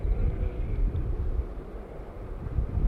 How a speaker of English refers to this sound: Start recording even those motorcycles again. There's some motorcycles going past.